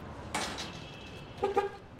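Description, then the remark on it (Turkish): Two quick, short car horn beeps in a row outside an apartment building, following a brief dull thump near the start against a quiet street background. No one speaks. “Kornayı duyunca arabaya yürüdü.”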